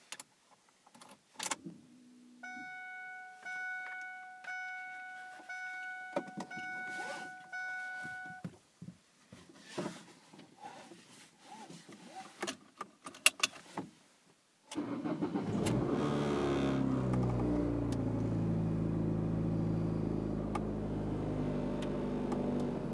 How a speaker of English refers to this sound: Ford Focus. I drove it over here last night. It was intensely loud. So, I don't know how this is going to go when I fire up the fucking engine. You might not even be able to hear me anymore.